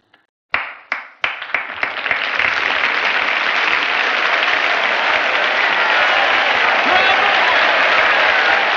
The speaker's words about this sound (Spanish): Los espectadores están en trance, boquiabiertos como hipnotizados, hasta que Burbage inicia el aplauso.